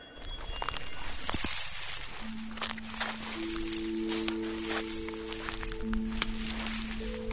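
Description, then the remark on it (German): Footsteps squelch and tramp through wet, boggy ground along the edge of swampy slope bogs in the foggy Brocken primeval forest, with soft rustling and the odd crack of twigs as walkers climb over fallen trees, steady, while a faint steady tone hums in the background. “Wir stapfen am Rande sumpfiger Hangmoore entlang und klettern über umgestürzte”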